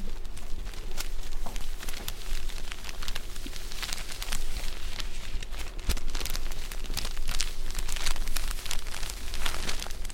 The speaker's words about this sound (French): Voilà, quand on les manipule, on entend le bruit qu'elles font et on sent qu'elles sont neuves. Et donc, un des plaisirs de la chaussette neuve, c'est d'enlever le papier de soie et de les enfiler ensuite.